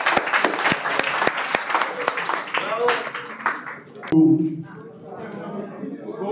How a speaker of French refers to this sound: C'est incroyable. On peut l'applaudir.